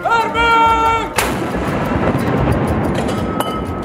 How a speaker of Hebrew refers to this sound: מה זה התותח? זה תותח שיורה כדורים ומכריז על פתיחת הצום.